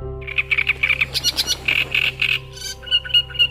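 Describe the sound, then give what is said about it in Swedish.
A warbler sings a quick series of repeated chirping notes in short bursts, clear, on the Kliosai meadows, over a steady low background hum with no talking. “På Kliosai ängar finns fortfarande sångare.”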